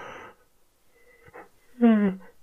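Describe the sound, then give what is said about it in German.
A person deliberately yawns once to demonstrate a voice exercise, a drawn-out voiced yawn whose pitch slides downward, fairly loud, after a brief breathy sound and a quiet pause. “Seht, ich habe erstmal gegähnt oder hört es, ich habe erstmal gegähnt und dann am Ende, wenn das Gähnen vorbei ist, einfach so ein Njam, Njam, Njam, Njam ausplätschern lassen.”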